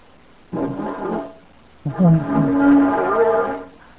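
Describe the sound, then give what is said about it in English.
Two deep, mournful horn-like blasts blown by a person into a replica Parasaurolophus skull crest, imitating how the dinosaur may have sounded, the first shorter and softer, the second longer and louder with a wavering, resonant drone. “If this is the skull of Parasaurolophus, I'm going to blow into it the way we think Parasaurolophus did, and this might have been how some dinosaurs sounded.”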